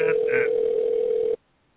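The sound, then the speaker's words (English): As a phone number is dialed, a steady telephone tone hums through a narrow, phone-line sound, with a couple of brief higher beeps early on, then cuts off abruptly into silence after about a second. “Such suspenseful dialing right here.”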